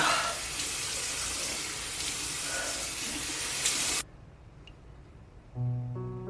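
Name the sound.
running tap water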